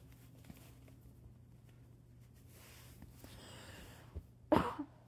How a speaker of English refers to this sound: Sorry again for the coughing.